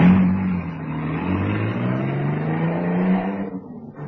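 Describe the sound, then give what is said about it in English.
A getaway car's engine roars loudly, revving hard as it accelerates away from the scene of an attack, its rising drone sustained for a few seconds before quickly fading off. “dragged him into the car under the watchful protection of the Tommy gunner, who swung his weapon around the few passers-by, standing petrified by the shock of the attack, and then got into the car, which roared away.”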